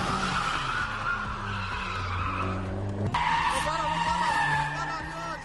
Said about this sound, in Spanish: Uno de los momentos más impactantes muestra un coche derrapando sin neumático, con la llanta rozando el asfalto y provocando chispas, un escenario digno de una película de acción, pero con personas reales en auténtico peligro.